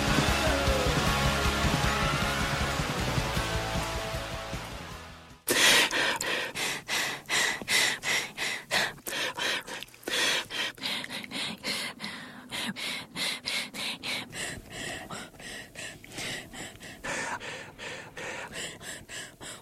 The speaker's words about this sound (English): Here's 1 hour of breathing on National Public Radio.